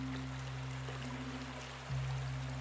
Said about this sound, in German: Vor der alten Mühle begann es zu plätschern und zu rauschen.